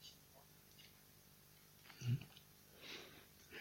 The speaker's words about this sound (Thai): หายใจแรงๆ 2-3 ครั้งพอถ้าหายใจแรงตลอดเวลาเดี๋ยวจะเหนื่อยพอเหนื่อยแล้วขี้เกียจปฏิบัตินะเรากระตุ้นความรู้สึกตัวเนี่ยหายใจเปลี่ยนจังหวะให้แรงขึ้นนิดหน่อยสัก 2-3 ทีพอนะ